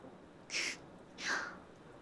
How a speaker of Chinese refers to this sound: 你刚才咳嗽了吧？这个时候向狐狸大人祈祷比较好，因为狐狸的哭声也是这样的。